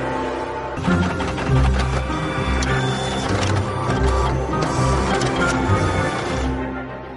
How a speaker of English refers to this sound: The new software allows him to reset the counter chip inside his printer back to zero. The printer immediately unblocks.